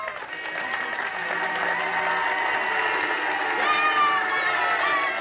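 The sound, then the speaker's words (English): Fans in Oskaloosa in 1961 cheer and shout continuously for bandmaster Carl King while car horns honk in sustained, overlapping blasts, forming a loud, dense wall of celebratory noise throughout. “A year later, fans in Oskaloosa showed their respect by cheering and honking their horns.”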